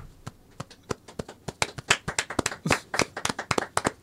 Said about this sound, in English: Oh, man. I want to clap.